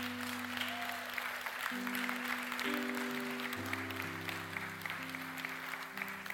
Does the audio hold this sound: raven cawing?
no